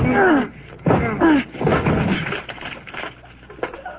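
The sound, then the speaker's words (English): A cellar door is forced open by two people pushing on it. Its wood creaks and groans under strain, then gives way to a loud splintering crunch as the whole lock breaks off the rotten door, with a few rattling knocks trailing after. “the whole lock came right off. I guess the door was rotten.”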